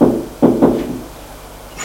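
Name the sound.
knocking on a door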